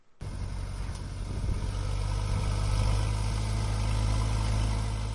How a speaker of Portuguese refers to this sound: Na cidade de Mucutu, situada a 40 km a norte da Harare, um trator prepara a terra em antecipação da estação das chuvas que se aguarda a todo momento.